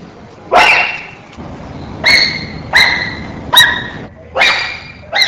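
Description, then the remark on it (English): A series of five loud, harsh wheel barks, evenly spaced about a second apart, each a sharp raspy call rising then fading, alone with no voices. “The wheel bark vocalization, examples 7 and 8.”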